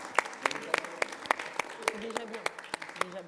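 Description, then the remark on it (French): A small group claps for a few seconds, sharp, uneven hand claps, with faint voices murmuring underneath, applauding a guest's 800K Instagram followers. “On applaudit 800K.”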